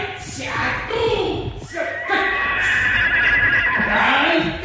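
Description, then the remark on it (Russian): A horse whinnies loudly, a long, shrill, wavering neigh that rises and falls over several seconds, as a man with a halter chases it, frightening it by approaching from behind rather than the front, against a busy background of stamping and rustling. “принес оброте, стал гоняться за лошадью, пугая ее и подходя сзади, а не спереди.”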